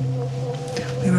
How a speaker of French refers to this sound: Mais quand elle diffuse un son d'abeille bouclé à l'ordinateur,